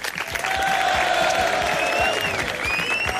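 An audience claps steadily with dense, continuous applause, joined by a few whistles and cheers rising above the clapping, as a farewell at the close of an event.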